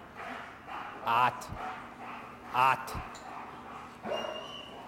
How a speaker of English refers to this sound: Bad man, stop fighting the dog.